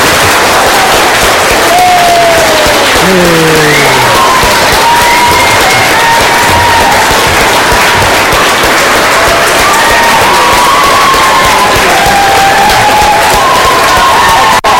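A crowd applauds and cheers steadily for about fifteen seconds, a dense wash of clapping with rising whoops and shouts over it.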